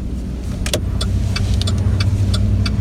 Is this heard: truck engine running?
yes